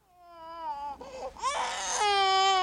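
A baby wails loudly, with long, high-pitched cries that rise and strain, broken by a brief ragged gasp before the next sustained wail, while the infant, who has a skull fracture, is examined in a hospital emergency room.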